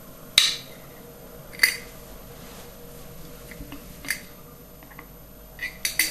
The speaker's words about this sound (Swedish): Den är ganska obubblig och slät och den luktar ganska surt. Så den har nog stått lite för länge, så den här behöver verkligen mattas på. Så nu ska jag visa hur man gör det. Då tar jag först 50 gram av den här gamla surdegen och häller i en ny burk.